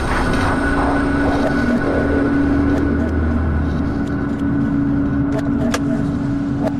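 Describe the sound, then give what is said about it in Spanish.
A car engine hums and rumbles steadily as the vehicle pulls in onto green grass just after rain, then a few sharp mechanical clicks near the end as Dante opens his car door. No one speaks. “Dante abrió la puerta de su coche.”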